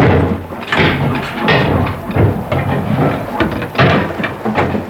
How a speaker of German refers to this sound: Mit heftigen Hammerschlägen machte sich der Schmied an die Arbeit, während alle anderen neugierig drumherum standen.